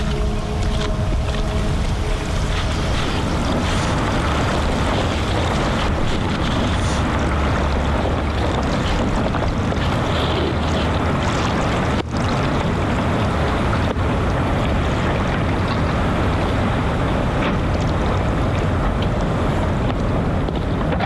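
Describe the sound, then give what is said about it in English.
A dense, continuous roar of hundreds of tons of ice melting and collapsing into the surrounding polar sea, with deep rumbling, low groaning tones early on and a single sharp crack midway, loud and without voices. “Colossal sound of hundreds of tons of ice melting and collapsing into surrounding polar seas has become a resounding alarm call for each and every one of us, signalling the warming of our planet and the existential threat which it poses.”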